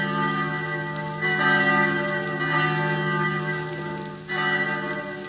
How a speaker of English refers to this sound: And everywhere, by the ringing of bells.